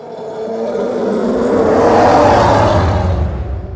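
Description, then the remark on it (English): A car swishes past a microphone on wet pavement, layered with deep, rough elephant growls to form a sound-design bass loop; the combined roar swells to a loud peak midway and then eases off, with no talking. “So those two elements layered together are what creates the bass loop for the TIE fighter.”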